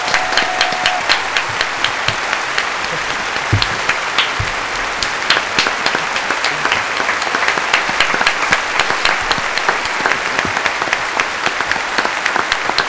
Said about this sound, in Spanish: Sí, damos fe. Si no, un gran aplauso para